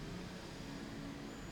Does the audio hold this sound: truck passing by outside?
yes